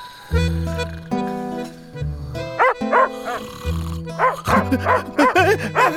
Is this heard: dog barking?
yes